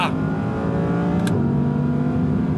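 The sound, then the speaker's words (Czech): An Audi R8 V10 Plus sports car engine revs loudly, its dense harmonic roar holding steady, then dipping in pitch about halfway through as if shifting gear. No voices. “Jednoduše Audi R8 V10 Plus, tohle auto chci mít ve svý garáži.”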